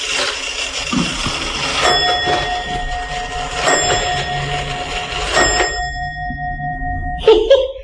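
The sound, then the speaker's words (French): An old Swiss pendulum clock chimes three times at a slow, even pace, each bright metallic strike ringing on with a long sustained tone that layers over the last, with no talking. “c'est la pendule suisse, elle est vieille comme tout.”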